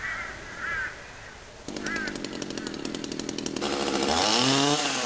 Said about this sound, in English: It is carving sculpture purely with the chainsaw, and that's an area I like to specialise in rather than using any other tools.